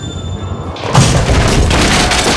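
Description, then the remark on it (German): A small bowling ball slams through pins at a bowling alley with a loud booming crash, smashing two pins to pieces and knocking a large hole in the wall, followed by a sustained rumbling clatter of debris, forceful with no voices. “Die kleine Kugel reißt zwei Kegel in Stücke, dass die Splitter dem Kegeljungen nur so um die Ohren schwirren. Und rums, ist wieder ein riesiges Loch in die Wand geschlagen.”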